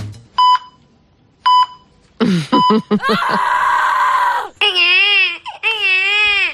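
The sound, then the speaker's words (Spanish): Two or three evenly spaced electronic beeps like a hospital heart monitor, clear, then a newborn baby bursts into loud, wavering cries that continue to the end. “¿Pero por qué ponen los pitidos al principio? Porque parece un hospital. Claro, el corazón.”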